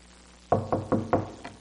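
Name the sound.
knocking on a door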